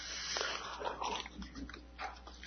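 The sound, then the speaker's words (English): Someone takes sips from a glass of water, with a series of wet mouth and swallowing sounds, irregular and soft, with no talking. “Perhaps you've heard of the circumstance where the atheist stands at a podium and maybe drinks a glass of water. In fact, I think I'll do that.”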